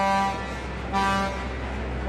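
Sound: ship horn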